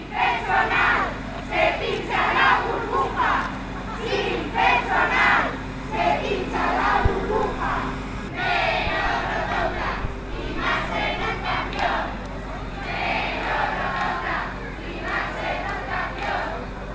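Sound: protest rally crowd chanting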